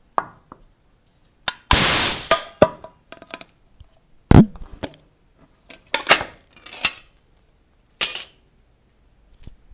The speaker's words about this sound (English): I've got a tin of Illy here which I'm going to open now and record the sound.